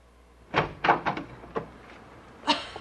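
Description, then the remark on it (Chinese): A door being opened: a handful of wooden clunks and latch rattles at an uneven pace, then a fuller scrape as it swings, with no voices. “开门，开门呐、啊！”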